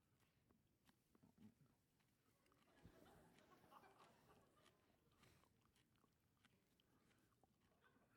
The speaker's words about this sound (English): But I have some parsley here. I'm going to chew on a little bit of it. This is actually Italian parsley. It's not quite as curly.